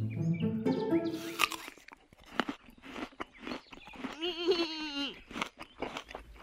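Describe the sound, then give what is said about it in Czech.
Crisp, crunchy bites of an apple with wet chewing in between, a rapid series of sharp crunches, while a voice-like tonal sound rises and falls briefly in the middle. “Samo mirno jedem jabuku.”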